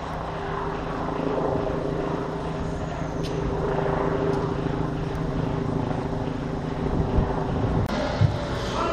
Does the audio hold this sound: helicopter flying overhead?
yes